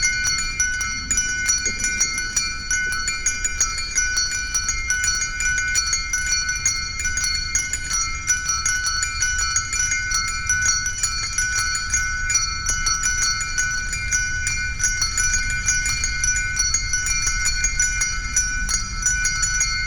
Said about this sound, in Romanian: Această rugăciune a clopotelor de pe discul …